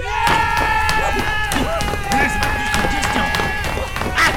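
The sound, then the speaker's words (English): A group of people shouting over one another while chasing one another aboard a ship, amid a flurry of heavy thumps and bangs as they thump into walls, a loud, chaotic, continuous din with no quiet gaps. “There's a fair amount of yelling and thumping into walls, but slowly, slowly...”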